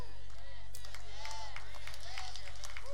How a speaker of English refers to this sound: Hit the person next to you and say, put your hands together and clap right there. That was a good place.